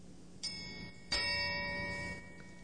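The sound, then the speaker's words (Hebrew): Two bright chime-like bell strikes about two-thirds of a second apart, the second louder, each ringing with sustained metallic overtones that fade slowly against a quiet background; the bell is a cue for children to turn the page during a story reading. “מתי שהפעמון מצלצל?”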